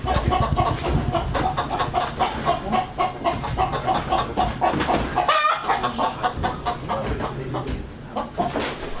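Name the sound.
chicken clucking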